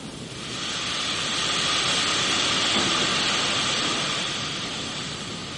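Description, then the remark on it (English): A loud, steady hissing jet of steam rushes up from a pool of water for several seconds, swelling gradually and then easing slightly, with no voices. “A thin streak ran across the water. There was a jet of steam.”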